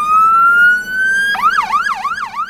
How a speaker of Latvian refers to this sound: Valvā FMX6 ir specializētā meža ugunsdzēsības autocisterna, kas šonadēļ svinīgi iedegtiem bākaguņiem un skanot sirēnām iebrauca meža ugunsdzēsības stacijā Križos un tika nodota Dienvidlatgales virsmežniecības rīcībā.